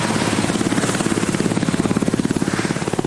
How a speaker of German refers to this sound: Der alte Präsident George W. Bush wird einen Helikopter besteigen und im grauen Winterhimmel Richtung Texas entschwinden.